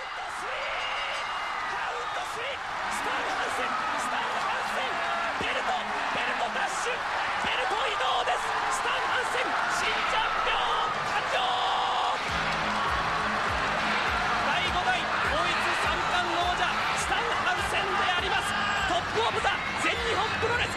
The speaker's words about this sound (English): You hear the fans singing Hansen's music and chanting his name.